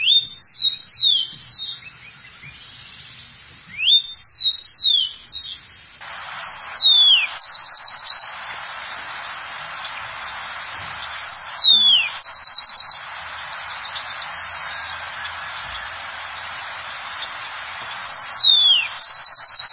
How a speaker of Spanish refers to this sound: Es un sonido como un sello de Bogotá. Usted ve, por ejemplo, una entrevista en un noticiero o el fondo de una escena de una serie o novela filmada en Bogotá, al fondo va a sonar un copetón, por lo general.